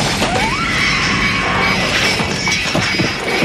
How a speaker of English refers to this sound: A perfect circle is being cut out from above as we watch. Plaster dust is raining down. The circle of ceiling crashes to the floor of the Buttles' apartment.